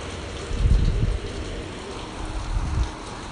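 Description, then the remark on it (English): Steady heavy rain pours down with a broad hiss during a storm, while low wind gusts rumble and swell twice, fairly loud, with no voices present. “This is a storm we've had coming in the last 2 days.”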